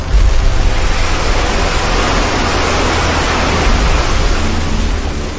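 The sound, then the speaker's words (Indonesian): A loud, steady roar of ocean waves at a beach at night, heard from a hut, the surf surging continuously with slight swells in intensity and no distinct pauses. No voices are heard. “Suara deru ombak yang bersaut-sautan terdengar jelas sampai ke pondok.”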